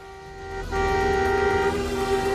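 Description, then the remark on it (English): Car horns blare in a long, continuous honk on a raised section of highway, a second horn joining the first partway through so the sound grows louder and fuller over a low rumble of road traffic. “Alerted by the horns behind him, Bobby Earl looks round at Paul's car.”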